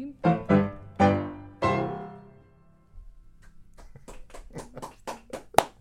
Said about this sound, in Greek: Δεν ξέρω, χειροκροτάει ο κόσμος. Κυρίες και κύριοι, είναι ζωντανό βέβαια, έτσι.